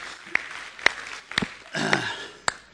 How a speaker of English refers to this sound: Aren't you glad we're in the military today? Aren't you glad you came to church? Huh? Give yourself applause.